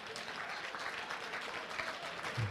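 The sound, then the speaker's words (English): A crowd claps steadily, with many hands blending into a dense, continuous patter of applause at a moderate volume, and a low murmur of voices just beneath it. “Y'all sad for clapping with me.”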